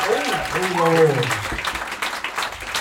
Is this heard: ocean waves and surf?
no